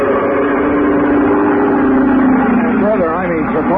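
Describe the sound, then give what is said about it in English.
A loud, steady airboat motor, a powerful engine with an airplane-type propeller at the back of a square-bowed hull about 12 feet long, drones with a whirring propeller roar as it skims the shallow water of a bayou. Its pitch wavers and bends up and down toward the end. “At the back was a powerful motor with a propeller of the airplane type.”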